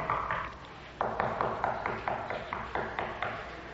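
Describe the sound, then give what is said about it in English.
A rapid series of firm knocks on a door, about ten sharp raps in uneven groups, loud, with no voices. “Who in the world is that pounding on that? Don't answer it.”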